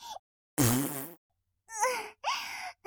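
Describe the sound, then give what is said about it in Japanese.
A few short, squeaky little farts from a girl who has eaten garlic, in quick succession, each a brief tonal toot with gaps of silence between them, clear with no talking. “こういうかわいいおならを女の子はするべきだよね。”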